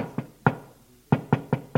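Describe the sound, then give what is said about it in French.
Knocking on a door: two raps, a short pause, then four quick evenly spaced knocks, fairly loud with a hollow wooden thud, no voices. “Frappe à une porte.”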